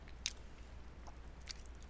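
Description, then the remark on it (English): Faint chewing of a sweet, bready snack, with a few soft wet smacks and clicks spread unevenly over a quiet background hum, as someone eats with their mouth open. No one speaks. “I should probably chew with my mouth open then.”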